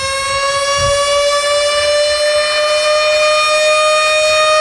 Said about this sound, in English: Sound the alarms, he said. Sound them,